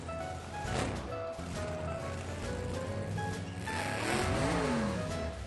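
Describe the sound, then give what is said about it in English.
A tiny car's engine putters along at steady volume, revving with a rising and falling pitch as it drives into a circus ring, with no voices. “A tiny little car drove into the ring.”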